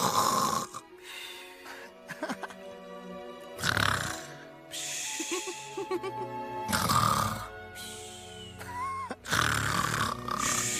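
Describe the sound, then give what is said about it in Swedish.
Loud, rumbling snoring repeats in heavy rasping breaths about every three seconds, exaggerated, with quieter wheezy breathing and a few faint whistling tones between the snores. “Du snarkar som en elefant!”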